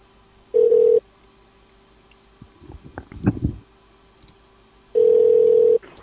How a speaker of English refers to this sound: I think this is one of those without a ringtone. It's connecting. I'll try and connect it again. It's trying to connect, but it doesn't seem to be ringing. So I'm not sure if it's got no ringtone or it's just going to pick up or what.